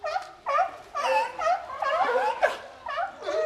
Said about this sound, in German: Ah, warte, Seehunde, Robben? Ja. Wo also, sind die denn? Ja, ich gebe zu, die Geräusche kommen aus den Lautsprechern. Die Tiere, die wir da hören, sind natürlich nicht wirklich bei uns.